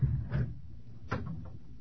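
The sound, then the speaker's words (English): A door being opened, heard as two muffled knocks or rattles about a second apart over a low rumbling background. The sounds are soft, with no one talking. “Open the door, baby.”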